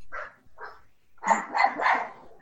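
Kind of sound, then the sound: animal, dog barking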